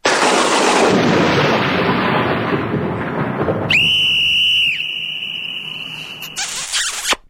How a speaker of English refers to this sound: Okay, three sounds there. So that's a thunderclap. What was the middle one? It's a whistle. It was a whistle, thunderclap, a whistle, and then a big kiss.